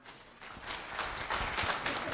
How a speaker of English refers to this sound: Applause.